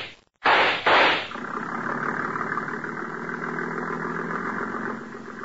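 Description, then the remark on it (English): A speedboat engine, pulling away from a dock and heading downriver, gives two loud, rough roars, then settles into a steady, throbbing mid-pitched drone that holds and begins to fade slightly at the end, with no voices. “There he goes, into the speedboat at the dock.”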